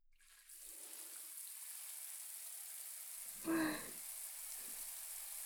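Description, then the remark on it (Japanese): Steady hiss of running shower water flows throughout, with a brief louder splash partway through and soft lower rustles of water working through hair as a shower rinses shampoo out of the hair, fingers working through it. “こうしてシャワーをかけながら、しっかりとシャンプーを流していきます。”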